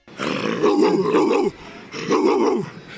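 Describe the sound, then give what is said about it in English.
Keyshawn Johnson imitates a dog with two long, gravelly barking growls, loud, separated by a short pause. “Great job by her on the broadcast, because we got Keyshawn Johnson barking.”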